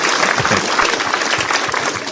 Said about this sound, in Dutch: Kijk. Mogen we even een applaus voor die jongens.